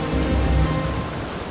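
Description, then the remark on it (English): Steady rain pours down, a dense, continuous hiss of drops striking a surface, with a low rumbling undertone and no voices. “I glanced back at my brother, receding from my vision, consumed by the rain, a lost soul drifting into the night.”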